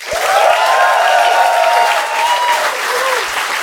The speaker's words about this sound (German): ein tosen Applaus bitte für die Bubets!